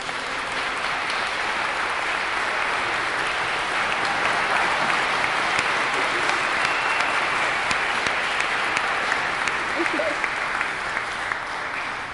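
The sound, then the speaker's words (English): A church audience applauds steadily for a member turning 94, a dense, even wash of many hands clapping that holds at a constant loudness for the whole stretch without fading, with no voices standing out. “When someone turns 90 or over, I feel like they deserve a round of applause, don't you?”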